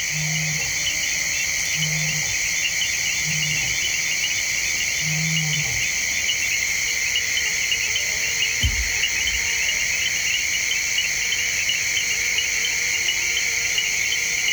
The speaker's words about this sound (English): The nighttime world along the forested River Mara is wide awake with giant flying insects, chirping bats, chiming frogs, and the occasional hungry hippo